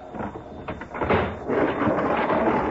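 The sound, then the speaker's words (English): A heavy metal sliding door is torn open by men on a freight car of a stopped train, a loud grinding, rumbling scrape that builds and rolls on for a few seconds, with no voices. “As they break the seal on the freight car, other men tear open the door of the car ahead.”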